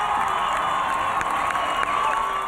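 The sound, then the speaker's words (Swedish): A large crowd of Norwegian people cheers continuously as the newlywed Crown Prince Haakon and his bride appear on the palace balcony after their wedding in August 2001, a dense roar of many voices with scattered higher shouts and whoops, steady and loud throughout with no individual speech standing out. “Och folket jublar.”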